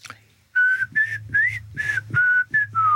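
Someone whistles a short tune up close, a string of about seven clear, sustained notes with slight pitch bends, over a faint low hum and no talking.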